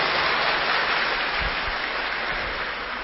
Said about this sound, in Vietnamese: Và hôm nay các bạn rất là ngoan, thì cho một tràng pháo tay tán thưởng các bạn.